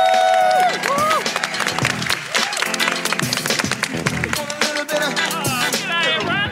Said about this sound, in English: To wrap up this special edition of Climate Week, please, big round of applause